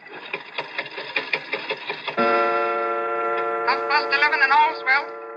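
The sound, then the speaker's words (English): An antique clock mechanism made in London in 1752 whirs with a quick, rattling run of ticks for about two seconds as its glass face is opened and its hand pushed forward, then gives way to a steady, buzzing harmonic drone that warbles like a mechanical voice. “But look at the clock. I open the glass face like this. I push the hand forward like this”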